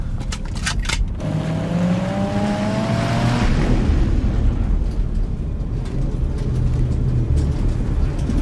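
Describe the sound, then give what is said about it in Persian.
A car drives through a road underpass with a steady, loud low rumble of engine and road noise, the engine tone climbing briefly as it accelerates, with a few sharp clicks at the start. “الان تو زیر گذاریم، آماده شین.”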